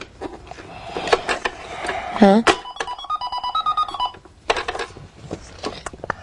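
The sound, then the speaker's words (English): A toy cash register chirps out a run of short electronic beeps and button tones, rising and stepping in pitch, with a brief rattling clatter, while a voice asks a quick question. “You're running a what? A cash register.”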